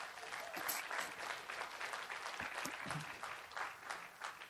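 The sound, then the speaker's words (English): A church audience claps steadily and warmly for several seconds to welcome a guest invited up to speak, a dense wash of many hands without pause, with no one speaking over it. “You guys can welcome him with a round of applause.”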